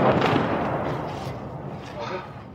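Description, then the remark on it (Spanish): Heavy Russian artillery fire bursts rumble in a dense, continuous roar on the outskirts of Bakhmut, with a man's voice talking over the booming barrage. “Las ráfagas de fuego de artillería rusa son realmente intensas aquí, ya que hemos llegado a las afueras de Bakhmut,”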